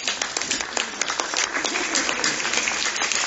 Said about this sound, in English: Yeah, let's applaud.